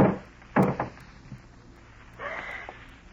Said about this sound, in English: A moment later, you slip quietly out the back door, hurry to the garage, and lift the door.